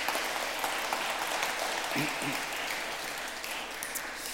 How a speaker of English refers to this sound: And we just want to appreciate God's goodness, not only in the flowers, but also for those people who spent so much time making beautiful arrangements. Why don't we just give them a round of applause and thanks.